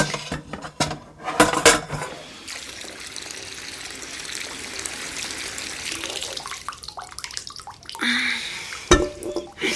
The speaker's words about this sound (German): Dafür stellen wir die geöffneten Gläser in den Topf, füllen ihn mit Wasser und bringen dann das Wasser zum Kochen.